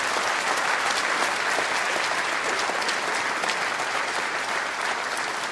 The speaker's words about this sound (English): Give a round of applause, please.